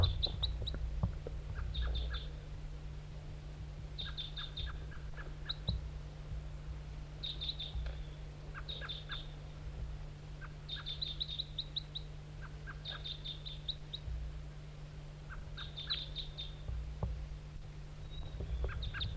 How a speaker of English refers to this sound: 4-3 toops and 5-7 flight calls. Back to the wild bird. Wild bird, back to the decoy.